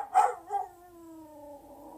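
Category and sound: animal, dog barking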